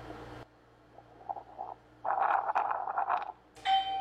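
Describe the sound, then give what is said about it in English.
An E10 home security display announces that motion was detected at the front garage: an electronic chime rings out once near the end, bright and ringing, after a burst of muffled, garbled mid-range sound and a quiet stretch with faint tonal blips. “where you or anyone inside your house can stream your wired or plug-in cameras continuously, four at a time, and will automatically show the live view with announcement when it detects motion.”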